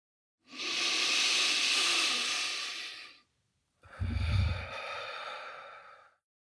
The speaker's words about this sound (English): Maybe taking one more big breath. Breathing in through the nose and out through the mouth.